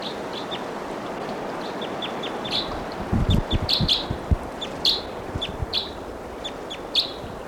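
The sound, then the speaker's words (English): A bird calls repeatedly with short, bright chirps from somewhere in the treetops, a distance away, over a steady outdoor hiss, with a few low thumps and rustles. “And I see the bird just flew by, perched on the top of a tall tree here.”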